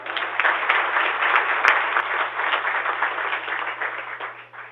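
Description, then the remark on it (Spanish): A crowd applauds Carlos Gustavo Cano, codirector of the Banco de la República, steadily: a dense wash of many hands clapping at an even loudness for several seconds before tapering slightly at the end. “Un aplauso.”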